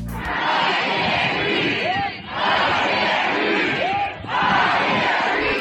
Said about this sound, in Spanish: No puedo respirar, gritan cientos de miles de personas en cada una de las movilizaciones que se suceden desde el día del crimen.